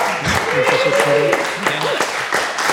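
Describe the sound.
An audience bursts into steady applause for a participant chosen in a game, a dense crackle of many hands clapping for a few seconds, with some voices calling out over it.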